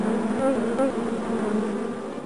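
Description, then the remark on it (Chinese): A dense swarm of dozens of bees buzzes steadily in a forest story, gathering around Duoqi, drawn by the sweet scent of the flowers and fruit decorating its spines; a thick droning hum that holds at an even loudness throughout, with no voices. “数十只蜜蜂在多奇的身边聚集了，它们都是被多奇装饰在刺上面的花跟果实，那种甜甜的香味吸引过来的。”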